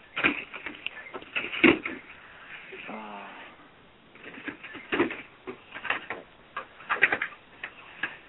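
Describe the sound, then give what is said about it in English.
A deck of cards being shuffled: bursts of rapid, crisp papery clicks and riffles come in several rounds, with a short murmured voice partway through. “Actually, I should probably shuffle them a couple more times.”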